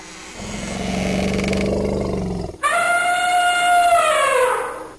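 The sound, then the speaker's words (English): A woolly mammoth named Jumbo, brought back through de-extinction, gives a deep, rumbling growl for a couple of seconds, then breaks into a loud, brassy trumpeting blast that slowly falls in pitch before fading. No one speaks. “Yes, it's a woolly mammoth.”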